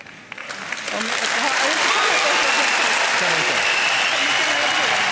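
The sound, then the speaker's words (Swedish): An audience breaks into applause that swells within the first second and then holds as a steady, dense wash of clapping, with some indistinct voices mixed in, reacting as Jimmy Åkesson offers his hand to Märta Stenevi. “Nej, man hörde ju att publiken reagerar på det där.”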